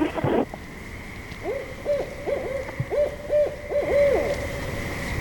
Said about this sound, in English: That's the barred owl. Here we go.